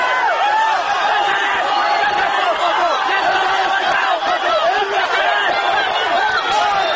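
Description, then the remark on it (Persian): A dense crowd of protesters in the city streets, some under the batons of plainclothes forces, screams and shouts without pause, loud overlapping cries forming a constant roar with no individual words standing out. “به سمت برخی از این معترضان در خیابان شلیک می شود و جمعی دیگر از آنها زیر باتوم های لباس شخصی ها فریاد می کشند.”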